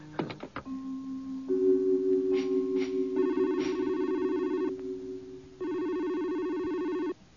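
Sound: telephone ringing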